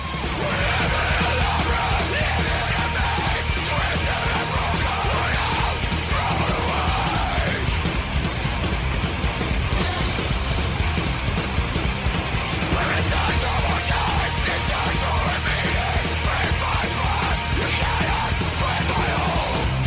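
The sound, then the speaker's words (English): Loud, dense music with harsh screamed vocals, a constant wall of distorted sound and pounding drums that stays at full volume for the whole stretch. “anybody who wants to just sit there and play loud music and scream is trying to vent in some way, and the people listening to them, God bless you, because they suck.”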